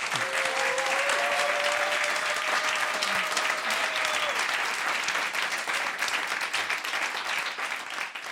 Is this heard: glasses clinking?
no